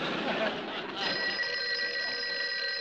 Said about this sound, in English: Well, answer the phone.